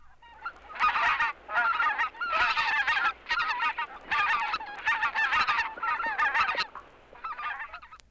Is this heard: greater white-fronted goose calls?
yes